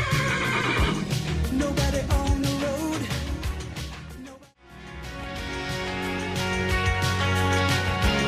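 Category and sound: animal, horse neighing and whinnying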